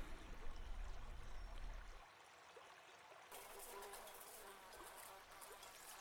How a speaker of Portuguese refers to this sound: Quer dizer, estes mosquitos eram dispensáveis. Ah, mas que chatice! É por cima, acho que não trouxe repelente.